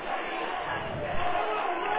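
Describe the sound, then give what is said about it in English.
A large stadium crowd at a football game at Tift County chants "Go Vikings, go" together in a steady, continuous roar of many voices, loud and sustained for the whole stretch, with no single voice standing out. “You hear the crowd chanting, "Go Vikings, go."”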